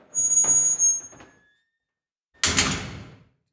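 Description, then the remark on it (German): A heavy metal prison cell door swings with a high grinding squeal, goes quiet for a moment, then is slammed shut with a loud, booming clang that rings out and fades. “Mach nochmal die Tür richtig schön zu, das hört man so schön.”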